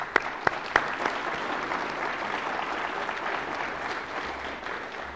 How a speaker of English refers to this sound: And if you'd like to join me in some applause for them.